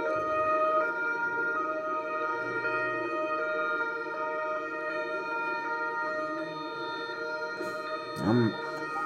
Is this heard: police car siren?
yes